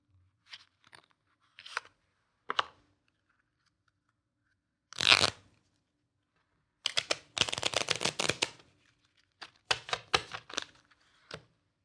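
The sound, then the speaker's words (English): A few sharp crinkles and snaps of a brand new card deck being opened, then a dense fluttering burst of cards riffle-shuffled, followed by a few more quick shuffles and taps, clear with no talking. “Suppose I had taken a brand new deck, opened it up, and shuffled it.”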